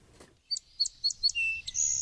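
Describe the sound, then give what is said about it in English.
A songbird sings in spring in Wisconsin: four clear, evenly spaced whistled notes, then slides without a pause into a quicker run of varied phrases, some musical, ending in a buzzy trill. Fairly loud, with no voices. “The four repetitious notes, clear as a bell, are followed in rapid succession by a series of more varied ones, some musical, some buzz-like.”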